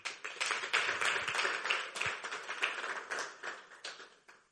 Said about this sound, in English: Join us here at Last Adam Tabernacle as we bring Christ to the nation. Let us give a mighty hand clap to the worship team.